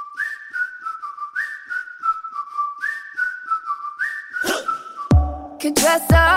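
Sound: whistling melody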